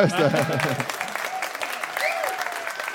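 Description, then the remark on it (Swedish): An audience at a venue in Linköping claps in a dense, steady burst of applause for a performer who has just finished his set, lasting the whole clip, with a voice briefly audible over the clapping at the start. “Så en applåd för han.”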